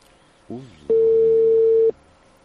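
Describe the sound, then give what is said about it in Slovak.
A telephone ringback tone on a call placed from the Rádio Infovojna studio: one steady, loud, mid-pitched beep lasting about a second, preceded by a brief wavering sound. “Už zvoní.”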